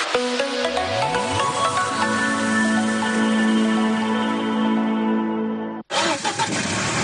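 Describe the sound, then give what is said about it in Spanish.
A car engine cranks and catches, its pitch sweeping upward as it revs, then settles into a steady, loud idle before cutting off abruptly near the end. “Dejamos el barco y cogemos eso, el coche, la furgoneta, el autobús, el taxi, qué sé yo.”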